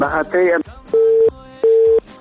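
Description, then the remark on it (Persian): A telephone busy signal beeps twice in steady, evenly spaced tones after a phone call was cut off, preceded by a brief burst of voice-like sound and faint background noise. “متاسفانه که تماس برادر ما قطع شد.”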